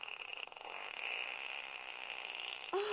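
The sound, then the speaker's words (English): A long, drawn-out fart, raspy and sputtering for nearly three seconds at steady loudness, closing with a brief squeaky rise at the very end. No one speaks. “Oh my God, that's a stage. That fart is called the laundry day.”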